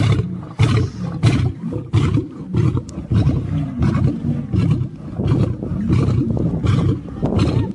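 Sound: big cat roaring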